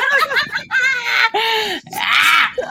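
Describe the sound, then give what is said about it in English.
A voice imitates heavy breathing, with a series of loud, breathy, moaning gasps in quick succession, with no other talk. “Yeah, and it's also very difficult, especially if you have to express emotions without words, like let's say heavy breathing.”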